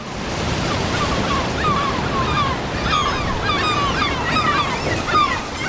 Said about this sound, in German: Ach, puh, Norwegen im Mai, das ist echt noch ziemlich kalt. Das Meer ist ziemlich rau, aber die Leute von Seaweed Solutions, die müssen trotzdem jeden Tag raus.